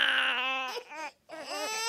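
Babies crying loudly, high wailing cries in two long bursts separated by a brief breath-like pause, with no talking.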